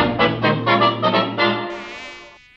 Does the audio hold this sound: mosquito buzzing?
yes